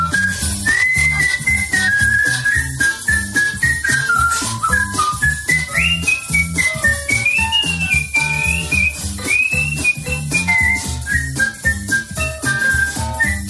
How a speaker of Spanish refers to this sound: Sí, ya te decía que esto es otro nivel, porque a quien escucha silbar es